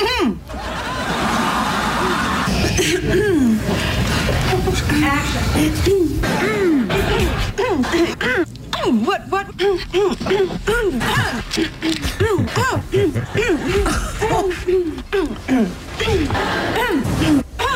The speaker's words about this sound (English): These are all separate occurrences. So she would clear her throat before landing the joke. Yes, before she gets to a punchline.